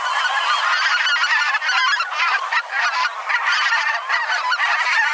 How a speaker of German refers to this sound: Okay, wir hören uns nochmal den Sound an von der Blässgans.